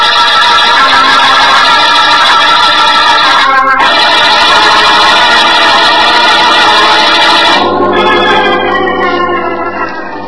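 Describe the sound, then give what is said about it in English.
A car engine drones steadily and loudly with no one talking while driving out to a country lodge in the middle of the night, then shifts pitch partway through as if changing speed, and keeps humming to the end. “you haven't done anything but tell me where to drive and sit there and watch for police cars”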